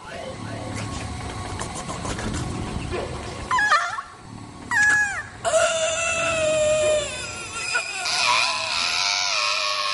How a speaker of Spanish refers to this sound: ¿Por qué gritan? ¿Por qué hacen escándalo? Si gritas, te va a cachar el asesino.